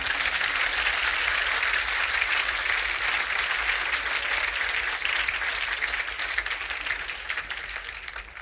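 A crowd claps steadily for several seconds, a dense, sustained wash of applause that stays loud and even before tapering slightly at the end. No voices are heard over it.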